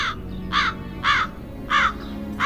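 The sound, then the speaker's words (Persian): A black crow caws four times in a steady rhythm, each harsh call clear, with a low background hum and no talking. “پارچه رو بر میداره، پرا به شکل دوتا پرنده در اومدن، یه کلاغ سیاه رنگ و یه قناری زرد رنگ.”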